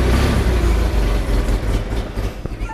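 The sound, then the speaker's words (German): A heavy machine engine is started by turning, like a car, then rumbles loudly and steadily with a deep low-end drone and rattling texture, settling into a continuous idle, with no talking. “Schmied an die Maschine. Drücken. Nix drücken. Sondern? Drehen. Weiter drehen. Ach, drehen. Wie beim Auto.”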